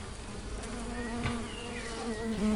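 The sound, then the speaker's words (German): Several mason bees buzz steadily, their drone wavering in pitch as they move around, with no voices present. “Ach, du meinst die Bienen? Das sind Mauerbienen.”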